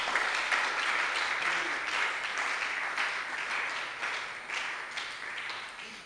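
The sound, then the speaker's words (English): A church audience claps together in sustained, dense applause during a sermon, answering the preacher's call to clap as they believe the report of the Lord. The applause holds steady for several seconds before gradually tapering, a bright wash of many overlapping hands with no distinct individual beats. “Can you clap as you believe the report of the Lord?”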